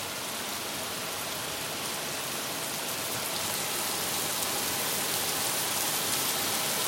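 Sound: heavy rain downpour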